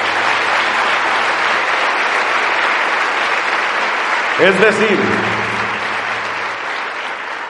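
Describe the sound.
Sustained audience applause, a dense steady patter of many clapping hands, more of them from women than from men, with a man's voice briefly speaking over it partway through.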